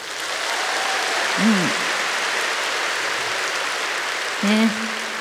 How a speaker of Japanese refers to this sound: 明るい曲なのでみんなにもね一緒にクラップで参加してもらいたいなと思うんですけど、 OK ですか。